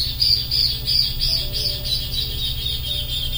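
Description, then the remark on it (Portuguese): Backyard birds chirp steadily in a dense, repeating chorus of high tweets, with a low rumbling hum underneath and no one speaking. “Saudações dos passarinhos do quintal.”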